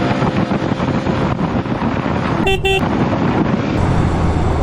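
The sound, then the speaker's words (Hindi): A vehicle rumbles along a road amid steady, loud wind-like noise, and a car horn gives one short, bright honk partway through. No one speaks. “रे रे रे रे, रुक रुक रुक, गाड़ी साइड में लगा।”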